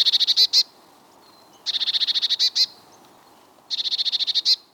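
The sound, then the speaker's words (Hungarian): A bird in an excited state gives three bursts of rapid, harsh chattering notes, each a quick rattling series of about eight to ten pulses ending in a louder note, separated by short pauses, clear. “Cserregő hangot izgalmi állapotban ad a madár. Ez a típusú hangadás nem zenei, hanem csúszkáló hangokból áll.”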